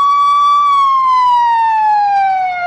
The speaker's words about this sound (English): Now, hold on, we got a little ambulance passing through here.